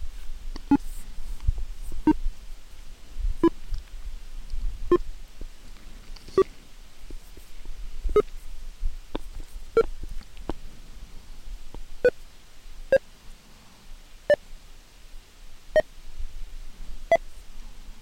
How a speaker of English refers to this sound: And NVDA keeps you updated by the beeps, or you can have it announce the percentage that it's done.